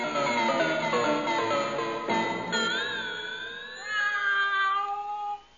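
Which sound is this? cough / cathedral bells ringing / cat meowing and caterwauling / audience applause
cat meowing and caterwauling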